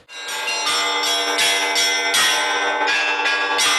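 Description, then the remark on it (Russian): Church bells ring in a rapid, rhythmic peal, several bells struck in quick succession with bright overlapping tones that sustain and shimmer, loud, with no voices. “Колокольный звон – это не мелодия, это все-таки больше ритмический рисунок, потому что никогда звонари на Руси не звонили не по нотам, попевки, а как я буду звонить, я никогда не знаю до того момента, как не поднимусь на колокольню.”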